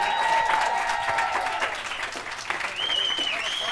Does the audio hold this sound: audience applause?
yes